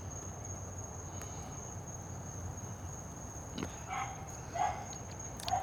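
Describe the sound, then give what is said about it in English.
A dog barks a few times, short yelps spaced out near the end, over a steady high insect trill and a low background hum. “Hear that dog barking?”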